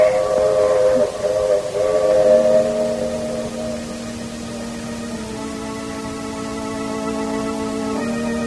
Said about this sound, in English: Well, the train is coming into the station now, Doctor.